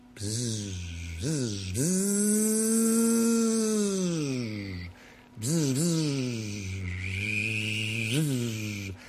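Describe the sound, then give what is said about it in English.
A voice imitates a weed eater with a buzzy, nasal drone, its pitch revving up and sagging in long sustained surges, briefly cutting out and restarting with quick sputtering revs. “hope that the distance of this technology of Facebook Live really helps you to appreciate the full skill I have in making the Weed Eater sound.”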